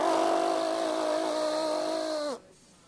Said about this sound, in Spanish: Ah, ahora es un tractor, ¿qué pasa ahora?